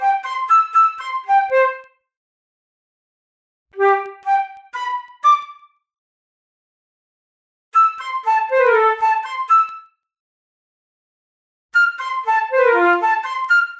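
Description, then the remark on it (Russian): Loud human whistling, a rallying call for birds to gather, in four separate bursts of quick, warbling notes, each lasting a couple of seconds with short silences between. No one speaks. “Доминик как мог набрал в грудь воздуха и засвистел.”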